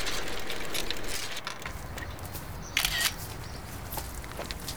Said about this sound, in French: Alors stop, je prends une photo.